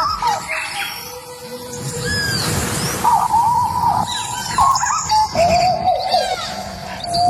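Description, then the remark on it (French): Tropical birds chirp and sing over a dense, humming forest ambience, presented as Colombia's new official national anthem, with repeated whistled calls and warbling phrases overlapping at moderate loudness throughout, and no voices. “il y a des oiseaux, il y a des grenouilles, il y a des jaguars”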